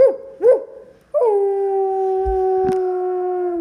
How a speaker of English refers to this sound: I don't want to go anywhere near anything that howls, said Pete stubbornly.